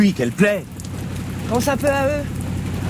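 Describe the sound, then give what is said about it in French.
Steady rain hisses in the background throughout, a constant wash of noise beneath two people talking, with a higher, animated voice in the middle. “Regarde, toutes ces femmes, ces enfants qui travaillent comme des bêtes sous la pluie.”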